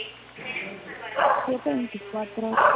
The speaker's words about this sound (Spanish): Disculpe, como se escucha ladridos de perro